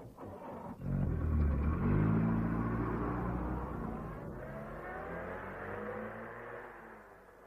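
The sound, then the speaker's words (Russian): A car engine roars to life and revs hard, its pitch climbing and wavering, then holds a steady drone as the vehicle pulls away, fading only slightly by the end. “А этого давайте скорее в машину.”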